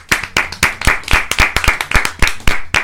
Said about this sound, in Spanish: Sí, un aplauso.